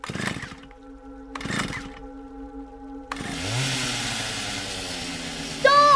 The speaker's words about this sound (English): Start the chainsaw.